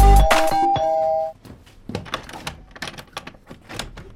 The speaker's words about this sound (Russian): И вот уже в нашу дверь звонит милиция.